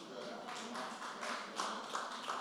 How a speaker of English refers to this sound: If you're going to clap, then clap. That was pitiful.